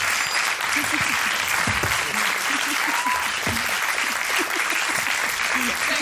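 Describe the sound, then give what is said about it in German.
Sustained audience applause, a dense steady wash of clapping at even loudness throughout, with faint voices and cheers mixed underneath. “Ein warmer Applaus nochmal bitte.”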